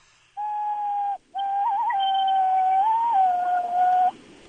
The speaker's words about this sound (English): I put my hands a certain way. I cup it a certain way. Like, I blow into my thumbs